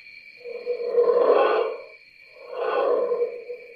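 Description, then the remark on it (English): A recorded Bigfoot growl in an exhibit at the Sasquatch Encounter Discovery Museum: two long, low, rumbling growls swell and fade one after another, each about a second and a half, over a steady thin high-pitched tinny hum, among the exhibit's tinny forest sounds. “These two small, dark, and somewhat spooky rooms echo with tinny forest sounds and the occasional Bigfoot growl.”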